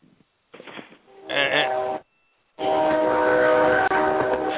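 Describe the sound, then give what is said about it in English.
A train horn sounds in loud, sustained blasts, a shorter one followed by a long steady one, with rumbling rail noise underneath and a brief pause between them. “That ain't my train, that's for sure.”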